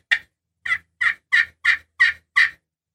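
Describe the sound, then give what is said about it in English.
A string of seven turkey hen mating yelps played on a friction call, fairly loud, the first note followed by a short pause and then six evenly paced, raspy-clear yelps. “And when she hits the ground, she'll usually do that 3 to 5 yelp, mating yelp.”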